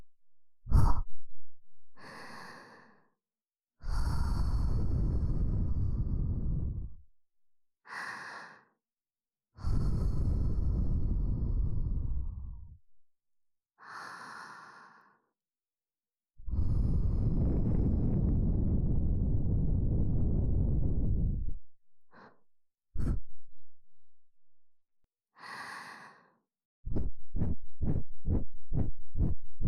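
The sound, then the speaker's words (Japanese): Breath blown onto an ear microphone to tickle the ears: several long, loud, rumbling exhales alternate with short, softer breaths, ending in a quick run of rapid little puffs. No talking. “眉の吐息で耳よくくすぐりの系だよ。”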